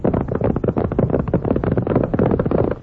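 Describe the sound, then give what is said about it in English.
Horses galloping, their hooves pounding in a rapid, steady drumming rhythm that stays loud and dense for the whole stretch, with no voices over it. “Why, anyone knows that's horses a-galloping.”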